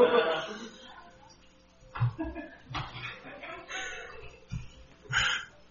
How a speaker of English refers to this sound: This is a new phone, and I don't know how to turn it off. I'm so sorry.